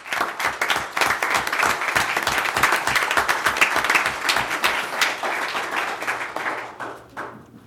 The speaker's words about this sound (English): We would like to thank everyone for the efforts and give them a round of applause.